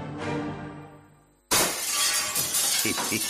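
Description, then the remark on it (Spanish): A ringing tone fades out, then glass suddenly shatters with a loud crash, followed by a spray of tinkling fragments scattering and clinking for a couple of seconds. “Le he cogido el gusto a esto de los cristales.”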